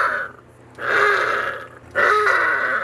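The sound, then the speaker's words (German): Harbour seal pups, known in German as 'Heuler' (howlers) for this sound, howl in drawn-out, nasal wails, three calls in a row, the last two long and loud, with no talking. “Hubi, Steve, Scotty, Ariel, Haddies, Hugo und Vicky heißen die Jungen, die auch Heuler genannt werden. Denn so hören sie sich an.”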